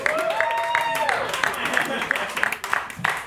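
A crowd applauds with steady, rhythmic clapping in a regular beat, loud and dense, with a brief rising whoop or whistle at the start and crowd noise throughout.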